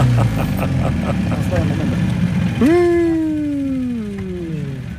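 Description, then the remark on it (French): Motor engines idle with a steady low rumble throughout. Midway, a louder whining tone rises in and slowly sinks in pitch as the engine winds down. “Enfin, heureusement, il reste le bruit des portables et des moteurs.”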